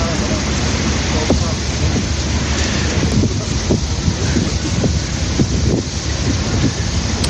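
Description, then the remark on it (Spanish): A ferry crossing the Danube river to Romania at the Ukrainian border: a constant, loud roar of wind buffeting the microphone over a low, droning engine rumble, with faint indistinct voices now and then beneath the noise. “A través de un ferry como este, como hemos hecho nosotros, muchos ucranianos consiguen cruzar cada día el río Danubio hasta Rumanía.”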